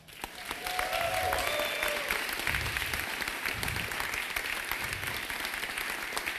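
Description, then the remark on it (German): An audience claps steadily at the end of an event, a dense, sustained wash of applause that swells quickly in the first second and holds at a strong, even level throughout, with faint crowd murmur mixed in. “Das ist euer Applaus.”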